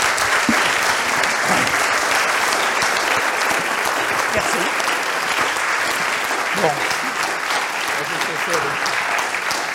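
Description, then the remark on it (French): An audience claps steadily for about ten seconds to applaud the speaker at the close of a talk, a dense, even wash of many hands with no pauses, staying loud throughout while faint voices murmur underneath. “Bon, et nous allons peut-être conclure en applaudissant notre orateur.”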